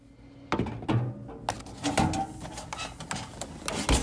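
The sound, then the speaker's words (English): A Narcan vending machine at the entrance of the Ralph Ellison Library in Oklahoma City runs with a low mechanical hum, broken by a series of irregular clunks and rattling thunks as parts shift inside. No one speaks. “Okay, walked up to the vending machine.”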